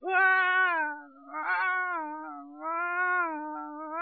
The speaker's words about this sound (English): Have you ever noticed when a baby cries, that a baby cries in a minor key? I was wondering, Lord, what is it about this baby crying? It's driving me nuts.